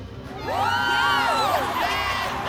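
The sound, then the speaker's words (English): A crowd cheers loudly, many voices whooping and yelling together in rising and falling shouts that hold steady for a couple of seconds without a break. “Stop cheering and what?”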